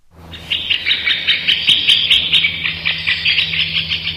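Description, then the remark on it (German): A woodpecker call played by a biologist through a loudspeaker in a forest in Oberrohrdorf, Aargau, to find woodpeckers: a fast, steady run of shrill, chattering notes that pulses on for several seconds, loud, over a faint low electrical hum. “Nein, das ist nicht der Specht. Auf jeden Fall nicht richtig. Es tönt nur so.”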